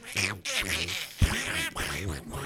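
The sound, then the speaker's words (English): A person imitates a cartoon duck, producing garbled, raspy quacking speech in a steady stream of nasal, buzzy syllables, fairly loud, with a brief pause near the middle. “He has a Donald Duck voice.”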